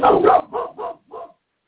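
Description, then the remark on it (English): Loud dog barking: one long, harsh bark followed by three shorter, quicker barks in an uneven rhythm, then silence. No one speaks. “I kill you and them loud ass motherfucking barking dogs.”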